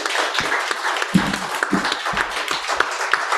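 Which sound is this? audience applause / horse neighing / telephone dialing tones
audience applause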